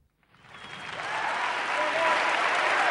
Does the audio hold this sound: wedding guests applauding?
yes